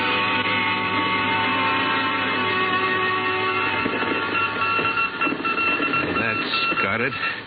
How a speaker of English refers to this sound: Started on voice and switched to Morse.